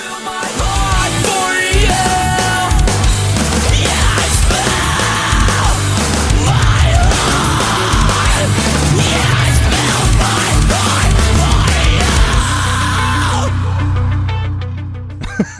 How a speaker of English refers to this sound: on the last two lines of the chorus here, which you get two lines here, you don't get it on the first time. I'd spill my heart for you. And in my notes, I wrote an ungodly scream. It's awesome.